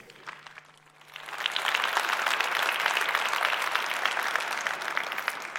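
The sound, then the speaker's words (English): An audience at the C3 conference breaks into applause to welcome a speaker giving a talk on hardware reverse engineering, starting faintly and swelling within a second into steady, dense clapping that continues loudly to the end. “Please welcome him with a huge round of applause.”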